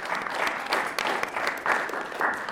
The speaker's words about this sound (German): Viel Applaus gab es bei der Filmpremiere, die am Drehort im Altenberger Hof in Nippes mit Kaffee und Kuchen